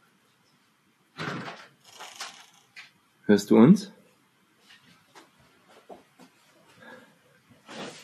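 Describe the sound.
A door is pushed shut nearby with a loud, sharp thud, preceded by some rustling and followed by faint scattered clicks, while a voice briefly speaks.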